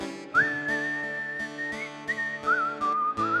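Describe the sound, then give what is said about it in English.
Someone whistles a clear, sustained melody that holds long notes and shifts pitch, over a steady rhythmic instrumental accompaniment. Nobody speaks. “Anyone whistle?”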